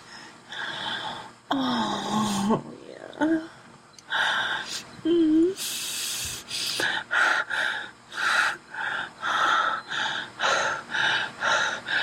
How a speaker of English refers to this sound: It's kind of tight and I'm breathing really heavy.